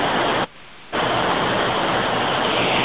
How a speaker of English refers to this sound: So as the rain is falling quite heavily now, I've opened up the glass door so you can hear the rain.